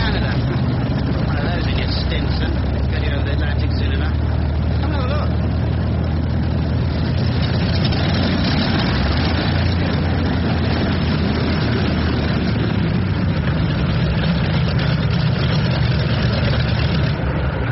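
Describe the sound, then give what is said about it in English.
The new Tornado engine of an airship runs steadily for the whole stretch, a loud, continuous low rumbling drone with a rough mechanical texture and no pauses. The engine was originally built as a train engine. “There's the new tornado engine.”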